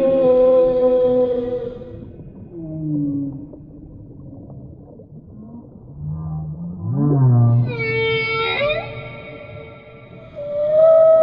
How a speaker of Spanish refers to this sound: Nos muestra cómo se comunican con otras ballenas a través de su canto. Un sonido tan profundo y tan melodioso que parece tocar el alma de todo el océano.